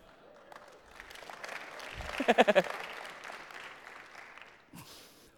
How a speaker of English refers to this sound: He thought it was worth three individual claps.